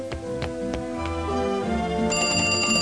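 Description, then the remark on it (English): A banana phone rings with a bright, musical electronic tone, steady, with quick tapping pulses early on and a sharper, higher ring joining near the end; no one speaks. “All you have to do is answer the banana phone.”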